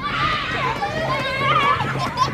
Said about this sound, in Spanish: Ahora están escuchando el mismo parque en verano, lleno de niños gritando y tocando los huevos.